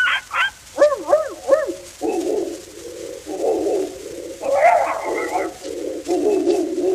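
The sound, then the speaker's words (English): Several dogs bark in quick, overlapping bursts, starting with a few high yelps and moving into a steady run of rough, fairly loud barks that fill the whole stretch. “And the dogs to bark.”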